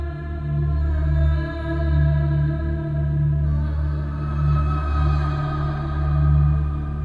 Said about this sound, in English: And here comes the wailing woman. Or keening or ululating.